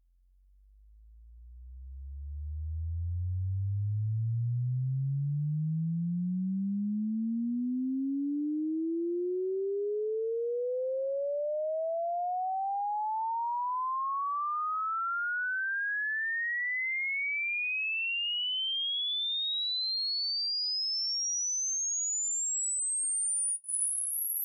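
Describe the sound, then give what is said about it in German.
A pure test tone sweeps smoothly upward from a deep low hum to a piercingly high whine, steady in loudness throughout, with no voices, a hearing-range frequency sweep. “Das hier sind die Bereiche von 20 Hertz bis 20 Kilohertz und ihr könnt ja mal hören, ab wann ihr was hört und ab wann ihr nichts mehr hört.”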